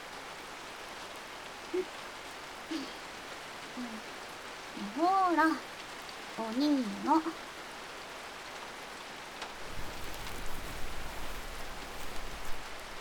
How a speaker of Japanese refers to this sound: この公園の休憩所で雨宿りしよう。最悪なんですけど。雨止むまでここのベンチで休んでこう。